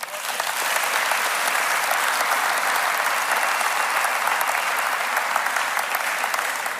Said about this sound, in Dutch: Weet je, laten we ze allen een warm applaus geven.